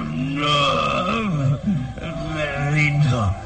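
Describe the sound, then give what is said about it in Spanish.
A werewolf, its arm twisted behind its back and its throat held, groans in intense pain with rabid growls: a deep, strained voice in two long, wavering bursts, pitch bending downward at the end of each. “El hombre lobo gime presa de intenso dolor y sus gemidos son más bien gruñidos rabiosos.”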